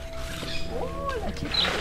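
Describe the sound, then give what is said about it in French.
A male monkey, guardian of his group in a large wire-mesh enclosure on a plateau above the Mayo river, gives a short, harsh threat call with a rising and falling pitch, unhappy at people approaching with microphones, over a steady outdoor background hum. “Oh là, vous venez par ici, voilà, parce que le mâle là, il est pas content, il aime pas, il est gardien du groupe, il aime pas trop qu'on vienne avec des machins.”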